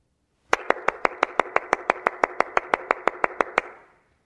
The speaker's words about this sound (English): Applause. Affirmation. "It's why I'm alive," is what he was saying.